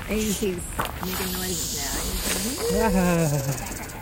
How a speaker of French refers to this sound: Welcome to Arizona. Bienvenue en Arizona. What is this thing? C'est quoi ce serpent? It's a rattlesnake. C'est un crotale. And il est venimeux.